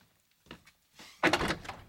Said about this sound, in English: At home, Leonard knocks on the bedroom door.